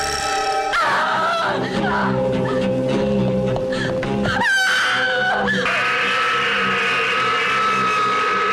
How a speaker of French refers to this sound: Ah, ça crie hein, dans Cinérama.